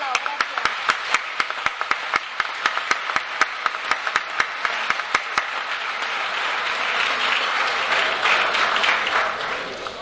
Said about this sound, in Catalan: Un fort aplaudiment també per ells.